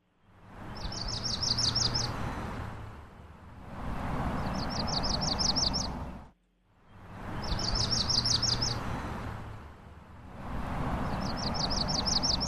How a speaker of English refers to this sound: Well, we have the yellow-rumped warbler. Now, like it says, it's yellow, but we like to hear it too. All right, here's the bird call.